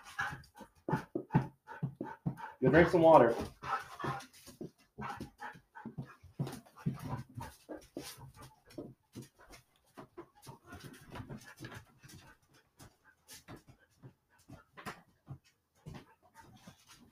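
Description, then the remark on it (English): Dogs that have just come in from outside pant in quick, rhythmic bursts, with a louder cluster of whimpering and snuffling early on, then steady panting continues; a person says a few brief words. “Ignore our dogs. I apologize. Enough, Otto. They just came from outside.”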